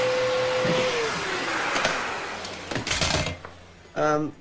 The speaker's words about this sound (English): She vacuums vigorously. Okay, turn it off. What? Put the vacuum down.